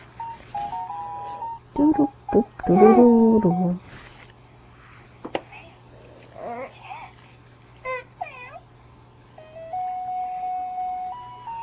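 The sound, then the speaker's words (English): A small electronic toy plays a simple beeping nursery-rhyme melody in short bursts, with a steady low hum underneath and a baby's babbling and squeals breaking in between the notes. “With a knick-knack, paddywhack, give a dog a bone, this old man came rolling home. Can you sing that?”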